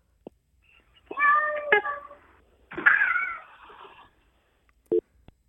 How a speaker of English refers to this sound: Wow, this cat sounds pretty cool.